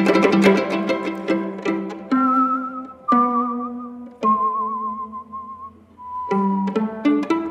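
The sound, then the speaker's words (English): A melodic human whistle carries a tune over instrumental music, holding long wavering notes with vibrato between shorter phrases, clear and prominent in the mix. “And the whistling is amazing.”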